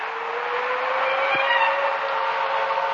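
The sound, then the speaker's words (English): A car drives along steadily toward White Oaks, its engine humming with a continuous rush of road noise at an even, unchanging level for the whole stretch. No one speaks. “With every mile, the car brought me closer to reunion with someone who no longer existed.”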